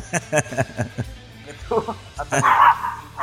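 A small pet dog barks in a quick run of sharp, high yips, pauses briefly, then lets out a louder, whiny yelp toward the end.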